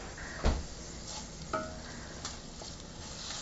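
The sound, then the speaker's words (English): Bacon sizzles in a pan with a steady, hissing crackle, broken by a couple of sharp clinks and scrapes as it is stirred. No one speaks. “So while the bacon is softening up, the other thing I'm going to get ready is the stock, the chicken stock.”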